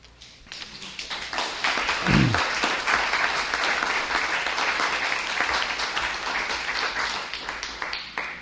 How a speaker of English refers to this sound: I love the applause, but if you applaud every time, then I can't read as many poems as I want to. And if you ever don't applaud, I'll be in grief.